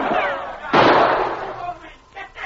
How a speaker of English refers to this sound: Sergeant Preston's quick shot smashed the carbine Travis leveled at the charging dog.